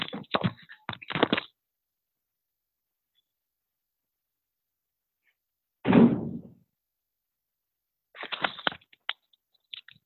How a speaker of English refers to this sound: One second, I just have to shut my door, there's noise.